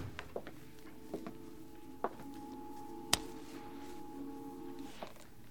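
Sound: door being closed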